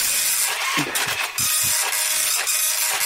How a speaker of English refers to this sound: Going through, the printer's in the other room though, which is why you can hear it really clearly. Here we come on. Print. Takes ages. Sorry, it takes a while to print out. It's quite a slow printer.